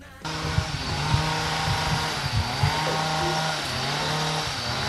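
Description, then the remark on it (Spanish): A chainsaw starts up after a brief moment and runs steadily at high revs, its loud buzzing engine drone continuous with slight rises and dips in pitch, heard on arriving in the rural village of Zerain, at 329 metres altitude. “Sí, el sonido de una motosierra, porque Zerain está en un entorno rural a 329 metros de altitud, un sonido pues, que pocas veces escuchan los escolares que participan o que vienen a estos Barnetegis.”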